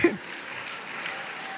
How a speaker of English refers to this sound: No, don't clap yet. Don't clap yet. All right, go ahead, clap.